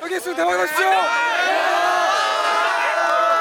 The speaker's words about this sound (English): Shouting good luck on your exam, sophomores and juniors bring banners to cheer on and encourage the seniors taking the exam. These chants have become a tradition.